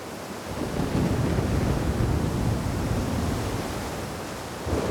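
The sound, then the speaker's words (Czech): A roaring, stormy sea in a violent storm, heavy waves churning continuously and driving a ship toward rocks, with wind rushing through, loud and dense throughout, swelling slightly at the end; no voices. “Jednou se zdvihla prudká bouře a obrovské vlny hnaly loď k neznámým skaliskům.”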